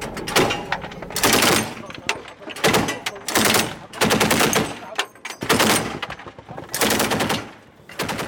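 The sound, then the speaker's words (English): Loud bursts of machine gun fire from the gunners on a travelling armoured personnel carrier, shooting toward the bushes all around just after a roadside bomb went off, rattle out in repeated volleys, each burst about a second with short gaps between, over a rumbling background. “And the gunners on the armoured personnel carrier that we're travelling in are shooting in the direction of the bushes all around.”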